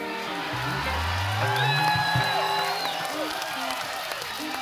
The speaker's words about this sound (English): You wouldn't be clapping if you knew what that meant.